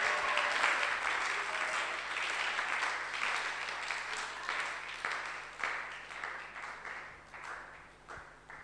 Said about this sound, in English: Can you clap? Can you clap? Can you clap, somebody?